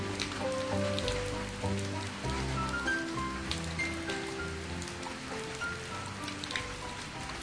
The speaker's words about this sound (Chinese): 三天过去了，雨还在下啊下啊，弗洛格开始有点烦了